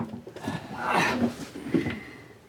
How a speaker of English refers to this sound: Ian takes a chair and places it so his back is to Morris.